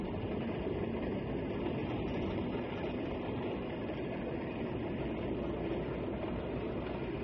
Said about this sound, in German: Der Zug biegt um einen Rank, er fährt Zürich zu.